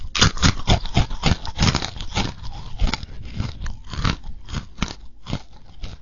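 Loud crunching as someone chews crunchy pretzels, with rapid repeated bites and grinding that continue steadily with no talking.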